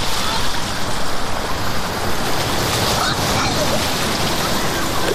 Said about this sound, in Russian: Мне так нравится, что вода поднимается сюда. Как будто она злится. Она поднимается там, а потом попадает сюда. Вода холодная.